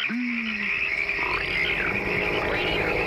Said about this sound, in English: Frogs are tiny. Yeah, yeah. They're calling each other.